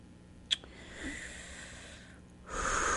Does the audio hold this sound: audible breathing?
yes